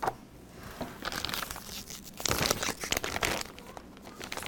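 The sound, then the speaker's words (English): Heavy 38-pound regular copier paper being handled, with continuous crinkling and rustling bursts that swell and fade, a louder crunch of crumpling near the middle, and no voices. “Best thing I ever did, I went to Staples and I got, this is just regular copier paper, but it's 38 pounds or something.”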